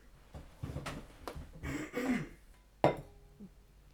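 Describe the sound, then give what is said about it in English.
A few rough throat-clearing rasps, followed by a sharp clink like a glass of water being set down and a brief quiet sip as someone clears their throat. No one speaks. “Excuse me while I go and clear my throat with a glass of water.”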